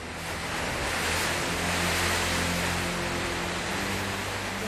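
Strong winter wind from the sea roars steadily along the Noto Sotoura coast in Japan, mixed with the broad, continuous wash of crashing surf, loud with no voices.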